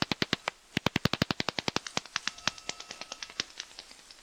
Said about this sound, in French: Et ça, c'est une chauve-souris.